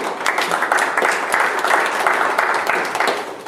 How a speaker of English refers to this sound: Amen. Give all the hand applause.